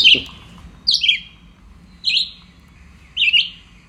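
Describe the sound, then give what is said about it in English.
A red-eyed vireo sings four short, clear phrases, each about a second apart with brief pauses between, fairly loud against a quiet background. “The red-eyed vireo. A fairly nondescript bird with a very big bill that's hooked, a bit like a red-tailed hawk.”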